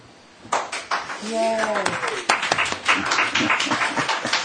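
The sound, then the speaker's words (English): A small group breaks into applause after a vote on a motion, a brisk patter of claps that starts suddenly and keeps going for several seconds, with voices cheering and talking over it. “You get a applaud.”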